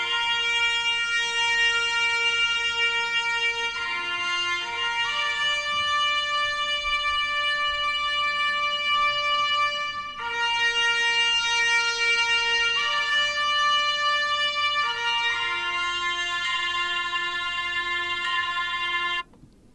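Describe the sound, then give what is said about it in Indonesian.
A trumpet plays a slow, steady melody of long held notes, stepping between pitches with brief breaks, loud for about twenty seconds with no voices. “Ketujuh, suara terompet.”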